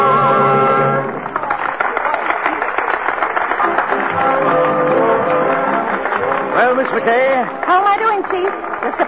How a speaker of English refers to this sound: That noise is applause, isn't it?